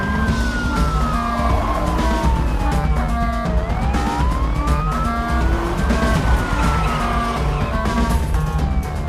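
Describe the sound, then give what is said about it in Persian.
A police car speeds off in pursuit of a suspect on Fifth Street, its siren wailing up and down over a roaring engine, loud, with tires and traffic noise filling the background throughout. “واحد 7 آدم 15 تعقیب مزنونی خیابون پنجمه بوهدری درخواست پشتیبانی. برگرد. برگرد ماشین تو حرکت بده.”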